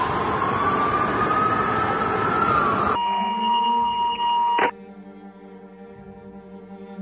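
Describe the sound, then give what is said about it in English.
Loud, wailing emergency vehicle sirens outside a window rise and sweep over dense traffic-like rumble, then cut to a steadier held pitch, ending in a quieter, lingering hum; no one speaks. “Oavbrutet hörs ljudet av sirener vid mitt fönster.”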